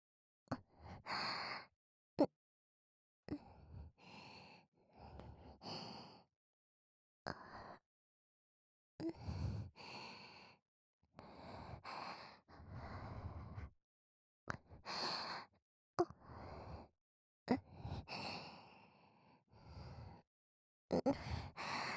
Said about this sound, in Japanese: さっきからあなたの吐息がいっぱい聞こえて嫌なんだけど。私の吐息なんか聞かないでよ。 そりゃ、耳に唇くっつけてるし